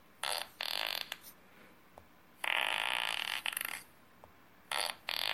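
A series of synthetic fart sound effects played from an app built with App Inventor, several short bursts and one longer buzzing blast, loud with brief silences between them and no talking.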